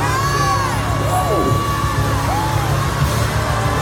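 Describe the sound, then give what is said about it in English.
An audience in worship shouts and whoops together, crying "Great is the Lord", in a loud, continuous roar of many overlapping voices, with rising and falling cries standing out from the crowd throughout. “Now start shouting, great is the Lord.”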